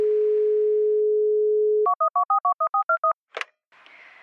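A steady, low telephone dial tone hums for about two seconds, then nine quick two-tone keypad beeps sound in an even rhythm, followed by a sharp click and a hiss of open line.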